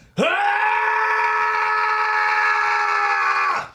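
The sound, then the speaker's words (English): A person performs one long, loud, deliberate scream as a voice-acting take for a video game, holding a steady strained pitch for about three and a half seconds before cutting off abruptly. “And so what they'd want is a 12-second scream, a 15-second scream, an 18-second”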